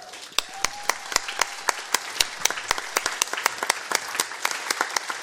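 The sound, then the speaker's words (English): An audience applauds steadily for coach R.H. Bob Peters, with sharp, irregular claps stacking into a dense, bright patter that holds for several seconds at a fairly even level. “Everyone, first off, give R.H. Bob Peters a round of applause.”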